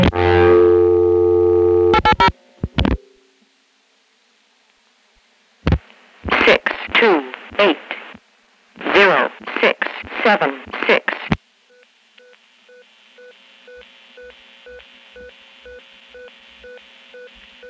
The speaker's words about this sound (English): That's the most common Cognitronics number readback device that was in use. There were 3 different versions of it, all with photographic film digits, which from the sound of that had gotten quite dusty.